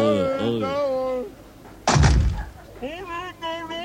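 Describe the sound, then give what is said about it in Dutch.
A single loud door bang with a short rumbling thud as something is pushed through the door, landing between stretches of talking voices that resume right after. “Nee, ik duw wel de kant op. Zo, nee, in de deur door.”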